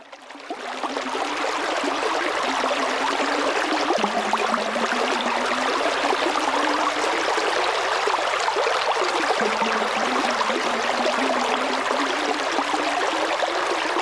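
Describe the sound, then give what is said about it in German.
A river babbles and trickles steadily, its broad rushing wash continuous throughout, with a low gurgling undertone and no voices. “Immer wieder ist es auch der Fluss selbst, der seine Stimme erhebt.”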